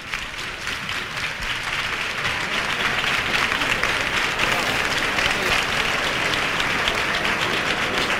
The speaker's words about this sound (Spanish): Y con este aplauso se recibe en la calle Pureza a la cruz de guía de la Hermandad de la Esperanza de Triana.